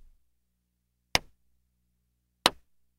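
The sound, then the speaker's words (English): Two sharp, crisp hand claps ring out about a second apart against near silence, each a single loud smack that quickly dies away, given in a children's phonics game because both words said start with the sound D. No one speaks. “If both words start with the sound D, you clap twice.”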